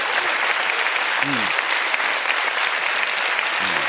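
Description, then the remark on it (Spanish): A crowd claps in steady, dense applause that fills the whole stretch at an even, fairly loud level, with a couple of brief low vocal sounds surfacing underneath. “No sabíais si aplaudir o no, ¿no?”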